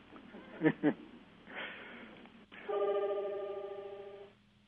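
A fire alarm sounds as a steady, buzzing electronic tone with a harsh harmonic edge, holding for nearly two seconds after a couple of short knocks and some faint background noise.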